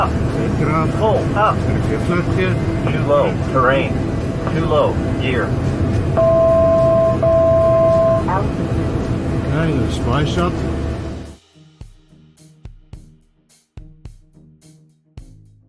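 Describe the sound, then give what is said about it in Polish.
A loud, steady roar of an Embraer jet flying very low over a stadium during a South Africa versus France match fills the first eleven seconds with a crowd cheering beneath it, then cuts abruptly to a much quieter scene with scattered soft knocks. “Na nagraniu widzimy przelatującego bardzo nisko nad stadionem Embraera.”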